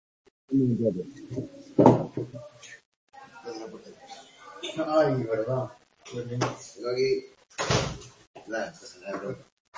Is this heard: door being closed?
yes